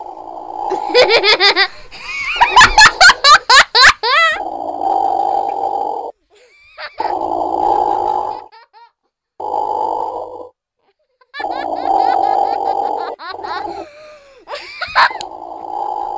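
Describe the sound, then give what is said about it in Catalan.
Platypus vocalizations: loud bursts of harsh, rapid grunting and squeaky chattering, coming in several stretches of a second or two separated by brief pauses. “vosaltres li donareu l'ordre, diguem-ne, al León perquè tiri el so de l'ornitorrinc”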